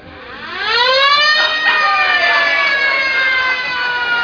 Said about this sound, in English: When you hear the siren, it will be time to assemble.